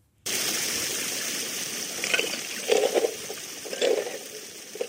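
Gravel and sand are pushed across a perforated metal sheet with 3.5 mm holes, wedged between larger stones so a stream washes over it, while hunting emeralds in a valley with Europe's only significant emerald deposit. Three or four rough, grinding, crunching bursts sound over the steady rush of flowing stream water.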